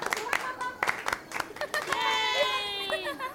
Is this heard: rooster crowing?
no